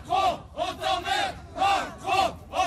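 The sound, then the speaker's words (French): About fifty protesters in Nice, toilet paper in hand, greet Emmanuel Macron with loud, rhythmic shouts, voices rising and falling together in repeated chant-like cries, about six swells in under three seconds. “Une cinquantaine de manifestants ont accueilli tout à l'heure Emmanuel Macron, papier toilette à la main.”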